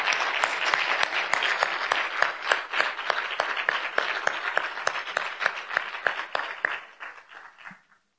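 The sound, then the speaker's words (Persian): A crowd at a startup event applauds steadily to welcome one of the event's organizers, a co-founder of a design studio. Dense, crackling claps with a few sharper individual hits hold at a fairly loud level before tapering off over the last second. No one speaks. “فکر کنم شایسته تشویق خیلی بیشتر باشه، خیلی چند ساله کار میکنه.”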